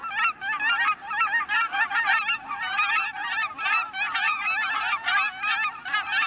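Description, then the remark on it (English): A dense flock of Canada and cackling geese honks continuously, many overlapping calls forming a loud, busy chorus with no pauses and no voices. “In the interior of North America, flocks of Canada geese might also have another species called cackling geese mixed in.”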